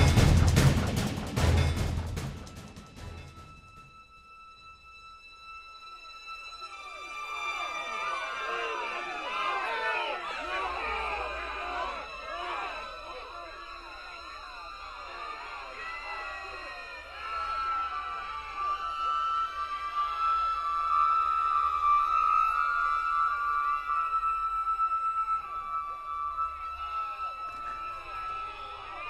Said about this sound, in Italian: Folla, soltanto folla. È un grande fracasso, assordante. Folla e luce.